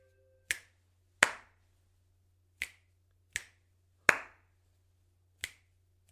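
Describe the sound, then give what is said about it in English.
Crisp finger snaps and a couple of fuller hand claps ring out alone in a pattern game, about seven sharp hits following a pattern of two snaps then a clap, over a faint steady low hum, with no talking. “It was two snaps and then a clap.”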